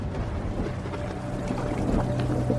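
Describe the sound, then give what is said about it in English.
A steady, dense rush of rain water pouring and splashing into a hospital waiting room, continuous and fairly loud with a deep low rumble throughout and no voices. “rain starts pouring into the room, and Ryan slowly starts to slip under the water”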